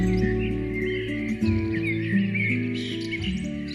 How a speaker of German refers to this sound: Laden sie vielleicht die Vögel dazu ein, mit fröhlicher Morgenmusik die Kinder zu wecken?